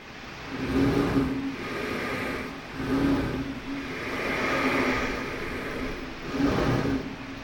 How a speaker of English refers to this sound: Escaping air pressure gives haunting sounds to the old lock, which now only opens its doors on weekends to let small craft pass through between the Gulf side of the operation and the fresh waters of the lower Withlacoochee River to Lake Rousseau.